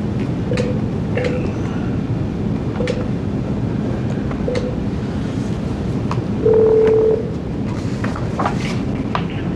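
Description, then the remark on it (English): Telephone dialing tones as a call is placed to bring another person onto the phone for an Arizona Board of Executive Clemency parole hearing: several short, evenly spaced beeps followed by one longer steady tone, moderately loud over a constant low rumbling background noise. “Okay, let me get you to hold one moment, because we need to try to get another person on the phone, and as soon as we can see if we can find him, we will move forward.”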